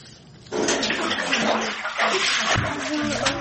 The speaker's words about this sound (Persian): سه سال می شود وظیفه این کودکان آبکشی از زیر خانه هایشان است. این کار را کودکانی 17 خانواده در دهه حیات نوی جماعت خراسانی ناحیه فرخور اجرا می کنند. اما آنها تا کنون نتوانسته اند این آب را از زیر خانه و کاشانه شان کم کنند.